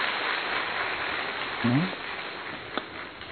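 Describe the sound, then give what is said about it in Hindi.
An audience at Madhuban, gathered for tapasya during the month of Shravan, claps together to welcome themselves in a steady, dense wash of applause that fills the whole clip, with a brief voice sound briefly rising through it and a sharp click near the end. “तो सभी एक बार अपना स्वागत तालियों के द्वारा करें।”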